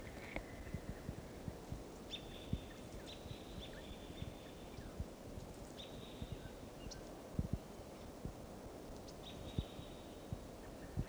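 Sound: wild bird calls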